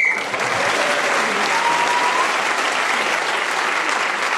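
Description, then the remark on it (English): A short, sharp whistle blast at the very start, ending a round of a game, is quickly swallowed by loud, steady applause and cheering from a crowd that carries on to the end. “In this game, whoever is speaking as the whistle when gains an extra point.”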